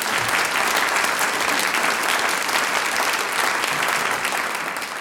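Steady, dense applause from an audience fills the whole stretch, loud and continuous with many hands clapping at once, tapering only slightly toward the end.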